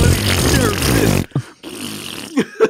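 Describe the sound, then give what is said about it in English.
A loud, dramatic singing voice cuts off abruptly and gives way to a few short, sputtering fart noises with brief gaps between them, like a comedic meme sound. “Dude, for me, it's still the stupid farting diva.”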